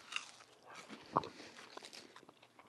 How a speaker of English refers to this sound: We're chewing. It's chewy. It's crispy. Whoa. That's a mouthful.